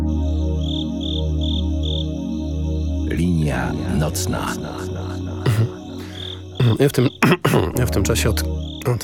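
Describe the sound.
A radio jingle opens with sustained layered synth tones and a repeating high chirping pulse, then a voice speaks briefly over shimmering music punctuated by sharp, bright accents.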